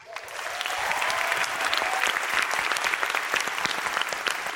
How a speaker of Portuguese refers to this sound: Recebam as palmas da galera em pé.